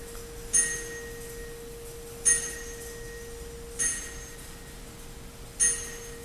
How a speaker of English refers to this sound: That chime was B flat. And people said, well, why B flat? Well, I can't tell you exactly why, but that particular note is something that I hear all the time.